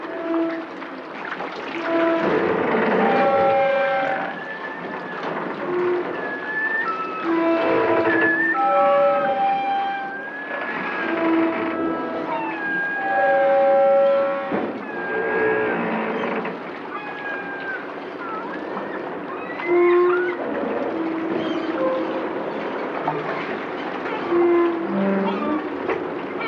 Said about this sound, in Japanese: 港に突き出た桟橋が波で擦れる音ですが、私には大きな弦楽器を練習している音に聞こえます。